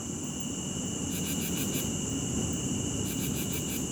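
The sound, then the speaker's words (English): Crickets chirp steadily over a constant high-pitched insect drone, with two clear bursts of rapid pulsed trills and a soft low rumble underneath. No one speaks. “Some people find it helpful to use white noise, nature sounds like waves or crickets, or relaxing music before bed.”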